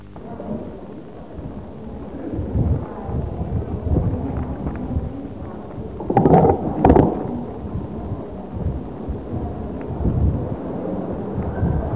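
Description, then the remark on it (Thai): Strong stormy wind, with a typhoon coming, roars and buffets steadily throughout, with a deep rumbling low end and a couple of sharper gusts surging louder midway, no voices present. “แหมลมยังก็ใต้ฝุ่นจะมา”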